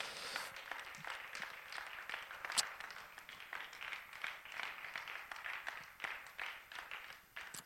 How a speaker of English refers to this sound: why don't you clap your hands to the Lord? He's worthy of praise.